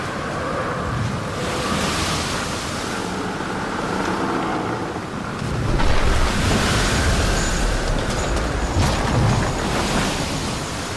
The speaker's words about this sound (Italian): Sopraggiunse Zefiro, fischiando furioso con una grande tempesta.